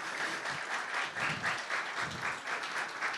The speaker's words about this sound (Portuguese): Lá entrando lá o nosso presidente, ó, Humberto Schmidt, presidente da CDHU, pode dar um aplauso também, que ele gosta de aplauso.